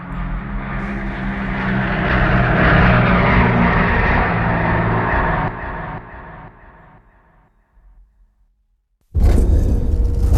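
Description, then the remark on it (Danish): A propeller airplane's engines start and roar loudly and steadily as it takes off from Leopoldville at 15:15, then the drone recedes and fades to near silence as the aircraft departs, before another loud burst of noise cuts in abruptly. “Motorerne starter. Klokken er 15:15. Albertina letter fra Leopoldville.”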